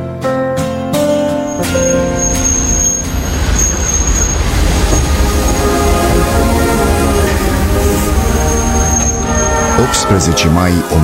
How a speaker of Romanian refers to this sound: mai 1920, gara din Varșovia. Trenul îi aduce pe învingători, trupele poloneze conduse de mareșalul Iosef Piłsudski, cei care la 7 mai 1920 învingeau Armata Roșie, cucerind Kievul.